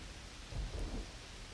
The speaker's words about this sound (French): Elle aussi ouvre les volets et observe l'orage qui se déchaîne dehors.